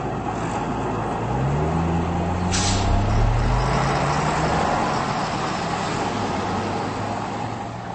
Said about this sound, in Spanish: El puente de Barrandov es una importante encrucijada que une dos autopistas principales de la República Checa. No obstante, es también un punto de grandes atascos de tráfico, dado el número creciente de vehículos que circulan en la capital checa.